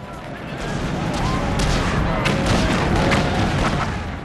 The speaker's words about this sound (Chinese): 还有被呼啸而过的炸弹和震耳欲聋的爆炸声惊醒的夜晚。